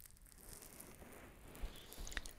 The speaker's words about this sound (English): Now to sponge the other side, your majesty. I am sorry for leaning over you.